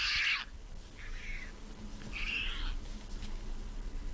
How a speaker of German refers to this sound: Wie macht ein Pelikan? Achtung. Das ist ganz schön leise, hä?